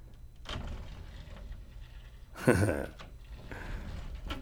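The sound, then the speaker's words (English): A door is moved and tested after being repaired and tightened, with a brief creak and clatter midway and a few softer knocks and shuffles around it, no talking. “Voila. Your door is fixed.”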